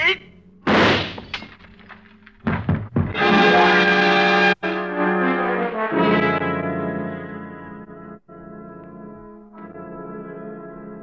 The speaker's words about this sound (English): He stumbles and falls forward, a strange look on his face. The glass in his hand smashing into fragments on the tabletop by your side as you step back quickly.